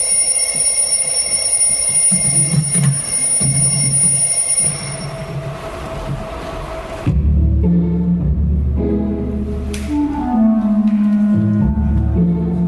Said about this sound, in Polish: telefony dzwonią, no to jednak jest współczesne. Tutaj telefony komórkowe, mimo że teatr, to jednak są faktycznie obecne.